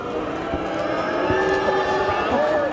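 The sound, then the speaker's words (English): A loud, steady crowd at Columbia University's Upper Manhattan campus in New York jeers and shouts at House Speaker Mike Johnson during a pro-Palestinian protest, with overlapping voices and a few sustained whistle-like tones rising above the din. “Johnson spoke over a jeering crowd as he condemned the protest on the Upper Manhattan campus, where pro-Palestinian demonstrators set up tents and demanded the university divest from Israel.”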